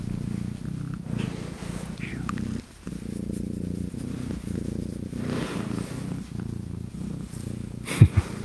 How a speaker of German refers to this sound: Musst du hier weiter rüberkommen. Komm, leg dich mal hier hin. Ich drehe mal das Mikrofon ein bisschen. Vielleicht hört man sie dann schnurren.